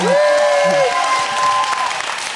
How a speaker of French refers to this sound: Comme on est dans les applaudissements